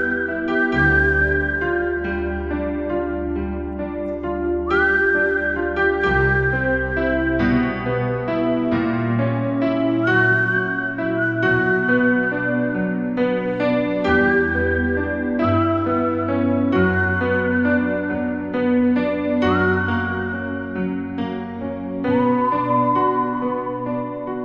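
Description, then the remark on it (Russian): A man, the captain, whistles the melody of the Moonlight Sonata, slow and mournful in long sustained notes with gentle slides between them, carried over a steady, loud backing of droning electric chords and a deep bass line. “Пожалуй, в этот момент капитан и начал насвистывать лунную сонату.”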